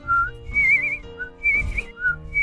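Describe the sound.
Whistled birdsong imitation: a string of short, high, warbling phrases with brief trills, rising and falling in pitch over a low steady musical hum, with no talking.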